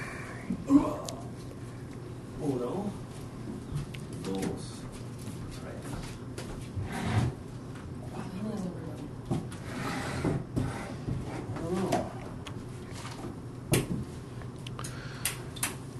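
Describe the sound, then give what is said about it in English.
A cooler door is opened and closed with a few soft thuds and clicks, followed by scattered handling knocks and a low steady hum in the background. “we just opened the door to the cooler.”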